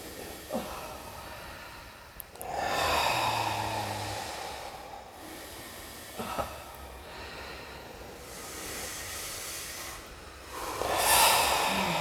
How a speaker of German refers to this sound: Jetzt haben wir wieder alle begonnen zu atmen. Atmet ein. Und aus. Tief ein in Bauch, Brust, Kopf.